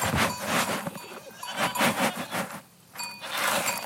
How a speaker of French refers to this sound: De toute façon, les chèvres s'en fichent, elles arrivent autour et hop, elles le ramassent. Elles le ramassent.